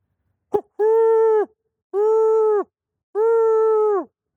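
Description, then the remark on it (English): A person imitates an owl call with their own voice rather than a calling device: three drawn-out, steady hoots of equal length with short pauses between, fairly loud and mid-pitched, after a brief click at the start. “I set myself in a position where I'm not going to be offensive to the owl, and then I don't call with the device, but I call with my voice.”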